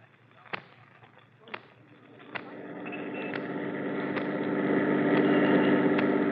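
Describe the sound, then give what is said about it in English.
A few sharp pops ring out, then a car engine rumbles in and grows steadily louder as the car pulls up alongside another car, with occasional clicks over the running motor, in the Gangbusters radio drama. “There's Adler, Captain, right by that car. Okay, Ryan, pull up alongside.”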